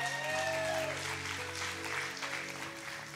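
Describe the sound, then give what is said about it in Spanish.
A crowd applauds steadily, a dense wash of clapping that holds at a fairly even, moderate level throughout, with faint tonal hums and a brief sliding tone underneath; the applause is called for Venezuela. “Un aplauso a Venezuela que está allá, por favor.”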